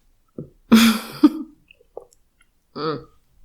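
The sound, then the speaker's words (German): A fit of coughing and throat clearing after trouble swallowing: a short hack, then a harsh, raspy strained cough with a second burst, a faint click, and a final voiced grunt of clearing. “Entschuldigung, ich hatte gerade Probleme zu schlucken.”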